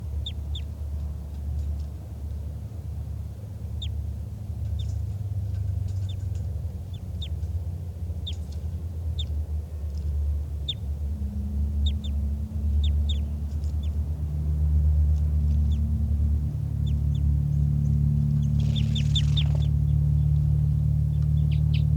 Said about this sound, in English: And now this wild bird is right next to 414. And there are calls coming from over there. I'm not sure which bird is giving flight calls. I think it's the wild bird.